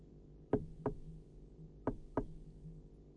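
Knocking on the door of a hat shop in two double raps, knock-knock, a short pause, then knock-knock again. The hollow thuds are distinct over quiet background noise, with no voices.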